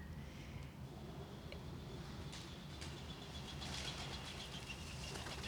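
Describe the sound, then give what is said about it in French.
Garden birds, including pigeons, turtle doves and sparrows, chirp and call faintly in a garden in spring, with scattered bursts of high twittering over a steady low outdoor rumble; no one speaks. “j'adore ce lieu avec ce jardin, les oiseaux. Qu'on entend un petit peu là d'ailleurs, comme c'est le printemps.”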